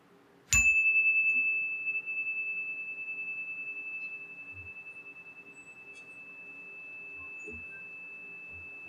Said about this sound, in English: Let us now embrace a moment of silent meditation. I'll ring the chime to begin and also at the ending of this time of silence.